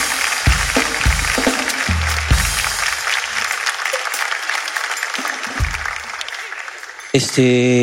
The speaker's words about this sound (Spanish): ¡Un fuerte aplauso, gracias, para el amigo, gracias, el mago!